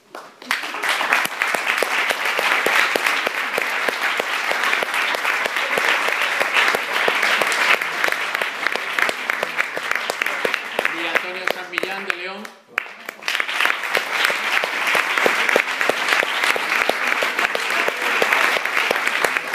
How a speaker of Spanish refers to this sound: voy a pedir primero a las personas que voy nombrando que os acerquéis aquí y al resto, si sois tan amables, que lo recibáis con un aplauso, porque lo que hacen en el día a día tiene un valor increíble para muchísimas personas.